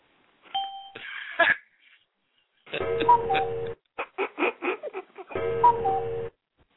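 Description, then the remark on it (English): A doorbell chimes through a bright, tuneful phrase, breaks into a run of quick rhythmic notes, then repeats the chime. Fairly loud, with no voices. “Somebody's at the door, Rocco.”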